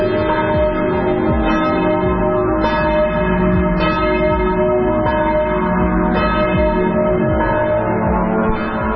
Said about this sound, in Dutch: Kerstavond en de lucht boven het dorp was gevuld met klokgeweier.